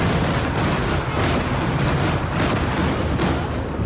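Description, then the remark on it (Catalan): A loud, deep rumbling roar from an Israeli airstrike explosion in Beirut at night, an attack on senior Hezbollah officials, fills the entire stretch, a dense, continuous boom with heavy low-end rumble and no voices. “L'explosió que hem sentit ha sigut molt semblant a la que li va costar la vida a Nasrallah.”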